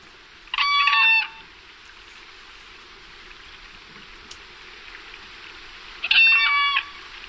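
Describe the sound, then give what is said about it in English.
Two loud, harmonic whooping crane calls, each a brief bugling burst with stacked tones, separated by several seconds of quiet background hiss; no one speaks. “You know, let's listen to a hooper here for a minute. We haven't heard the hooper yet, so.”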